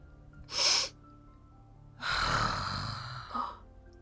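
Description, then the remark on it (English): Someone blows their nose: a short sharp puff of air, then a long, noisy, rasping blow with a brief final snort. No one speaks. “I have to blow my nose!”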